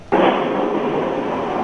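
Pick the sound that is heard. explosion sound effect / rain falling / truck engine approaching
explosion sound effect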